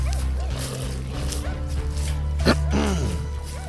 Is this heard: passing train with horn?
no